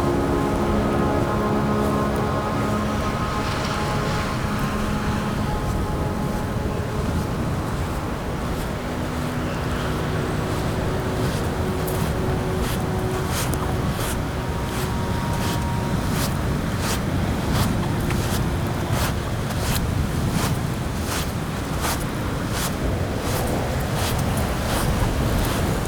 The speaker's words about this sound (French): Le sable et le vent qui se confondent avec le bruit de la mer.